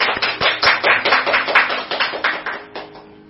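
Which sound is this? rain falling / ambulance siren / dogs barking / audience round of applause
audience round of applause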